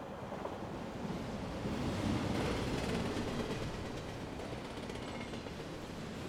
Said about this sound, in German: Gerade als Miss Marple den Heiratsantrag Luther Acanthorpes ausschlägt, bremst der Zug.